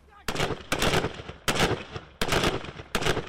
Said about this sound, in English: They're currently going through a close quarter marksmanship shoot, which involves them firing the assault rifle in the rapid and then switching to their pistol and then firing the pistol. So it has to be very fast, very aggressive